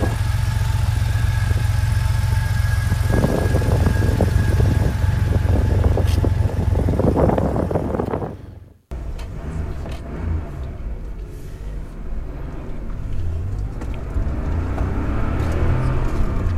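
The engine of a 1983 Porsche 911 SC, a car that came through the Porsche Classic program, runs with a steady, loud low rumble and droning hum. It cuts out abruptly partway through, then resumes as a rougher, busier idle.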